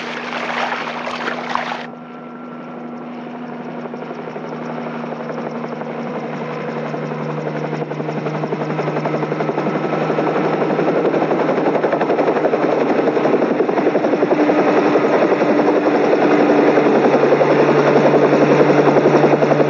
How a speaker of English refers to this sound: Chopper.